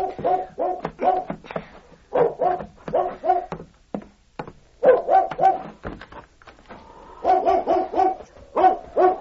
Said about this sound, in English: Bobby was awakened by the bark of a dog he had bedded behind the shed